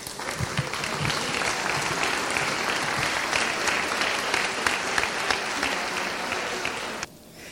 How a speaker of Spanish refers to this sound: Le damos un aplauso.